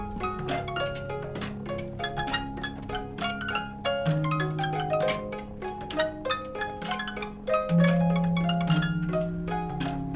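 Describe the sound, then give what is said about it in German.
A mechanical music player plucks out a bright, harp-like melody with steady repeating notes and ringing tones, fairly loud with no voices. “Diese hier, die zupft wie eine Harfe.”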